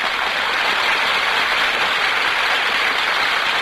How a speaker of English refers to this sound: That applause, ladies and gentlemen, is for our stars, who have just walked from the wings onto the stage.